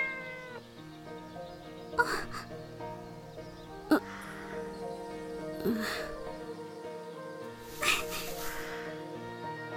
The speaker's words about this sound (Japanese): 猫。猫。猫。猫猫猫猫。